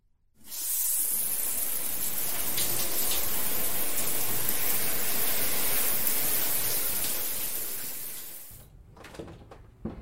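shower water running

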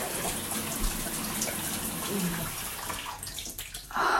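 running water

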